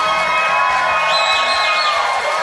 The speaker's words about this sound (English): You are hearing the happy cheers and clapping from the big ballroom at the Hyatt Regency in La Jolla, California, where we are holding our annual conference, the biggest Catholic Answers conference ever held anywhere on the face of the earth.